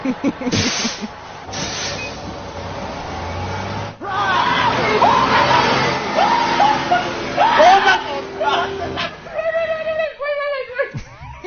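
A loud sound effect of a bus running someone over: a rumbling engine with harsh crunching noise and shrill screeching squeals, continuous for about eleven seconds before a brief break and a final squeal.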